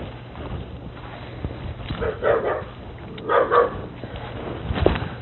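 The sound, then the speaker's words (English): Dogs bark in a few short bursts, with a steady low hum and outdoor background noise between the barks. “Ah, the dogs. Stirred up.”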